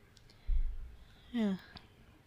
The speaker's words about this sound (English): Here comes the yawn